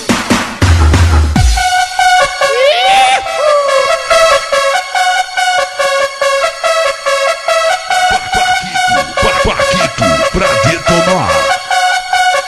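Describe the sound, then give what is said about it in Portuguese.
A crowd blows horns in a loud, sustained blare, many overlapping tones wavering and sliding in pitch, with a brief low thump at the start and no talking. “Olha os corneta aí. Fala aí, corneta.”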